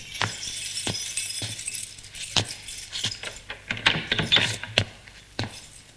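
Keys jingle and clink, with a run of sharp metallic clicks and rattles as a lock is worked and the service door of a shop is opened, with no voices.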